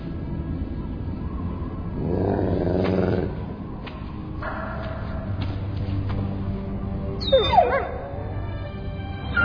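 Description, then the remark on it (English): A dog whimpers and whines, with a few rising yips near the end, over a low rumbling background. “Okay, good boy, good dog.”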